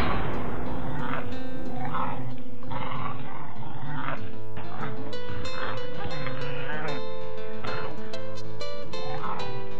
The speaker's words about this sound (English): As the coyote continued to yip and drag itself towards him, Clint shut his eyes and squeezed the trigger.